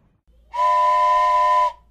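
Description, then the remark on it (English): A train turning right onto the right-hand track sounds one long, steady whistle blast lasting about a second, loud, over a faint low rumble that starts just before it. “The train is turning right and going down the right track.”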